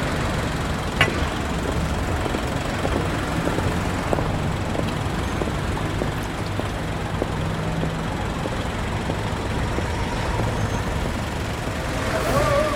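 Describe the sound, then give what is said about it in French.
Steady traffic on a boulevard rumbles throughout as trucks, cars and motorcycles pass at high speed, a dense low drone with occasional brighter clicks and a rising whine near the end, loud and continuous with no clear talking. “Des camions, des voitures vite teintées, des motos.”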